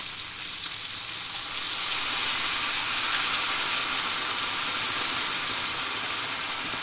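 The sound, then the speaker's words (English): About 500 ml of white wine hits a hot pan of bacon, mushrooms, garlic and shallots with a loud, steady sizzle and hiss that swells sharply after a couple of seconds and keeps crackling without any talking. “And then I'm going to throw in some white wine, a decent amount of white wine, about 500 mils.”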